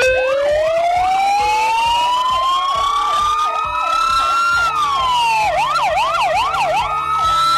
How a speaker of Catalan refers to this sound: els bombers dels parcs de Catalunya van fer sonar les sirenes durant un minut